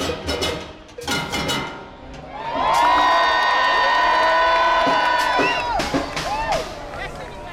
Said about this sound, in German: Unter großem Beifall der enthusiastischen Zuschauer kommen sie auf einem Musiktruck hereingefahren und genießen den Erfolg.